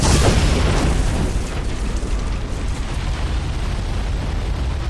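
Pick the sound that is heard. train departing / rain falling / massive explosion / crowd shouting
massive explosion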